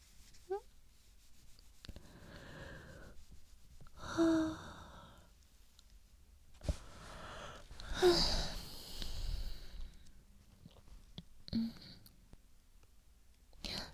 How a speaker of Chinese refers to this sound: 我传染的你，明明是你先打哈欠的，你哈欠连天的把我也带困了。